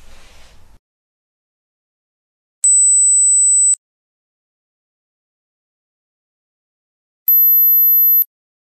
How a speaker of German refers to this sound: Ich spiele nämlich jetzt einen Klingelton ab für ein Smartphone.